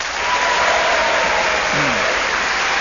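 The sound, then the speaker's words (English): Steady, dense applause from a panel-game audience as each player's final placing is announced, a loud continuous wash of many hands clapping with no individual claps standing out. “Getting a round of applause for each one of them, aren't I?”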